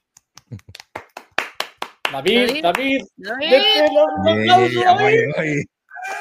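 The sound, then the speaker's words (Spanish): About a dozen sharp, separate claps ring out over two seconds, slightly uneven in rhythm, applauding a guest as he is introduced, then give way to loud, high-pitched voices cheering and talking. “Bueno, un fuerte aplauso en el chat, por favor,”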